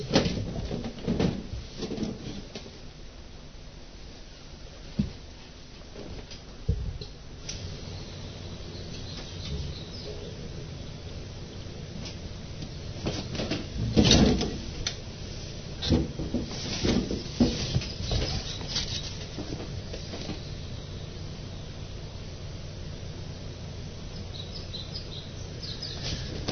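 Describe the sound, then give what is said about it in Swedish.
A blackbird sings outdoors, its phrases faint over a steady open-air hush, with a few knocks and rustles as a window is opened; it is 7.2 degrees outside. “Är det koltrast där?”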